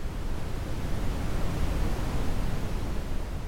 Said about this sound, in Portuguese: Hoje, os sons que mais utilizam são esses: caixinha de música, ruído branco, rosa, marrom e outros.